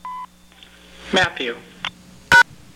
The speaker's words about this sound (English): Please say your full name after the beep. When you finish recording, press pound.